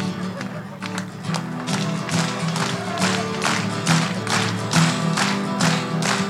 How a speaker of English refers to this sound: I don't know what happened about the clapping.